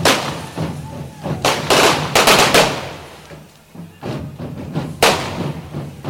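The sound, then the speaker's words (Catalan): Firecrackers on a fire-breathing dragon effigy, set off at a Sant Bartomeu festival, burst in a rapid, irregular string of loud cracks and pops, with short gaps between volleys and faint voices in the background. “I llàstima que no tenim una càmera de fotos, però la imatge de l'alcalde i alguns regidors tapant-se del foc del drac amb unes cadires de plàstic té doncs, una certa gràcia.”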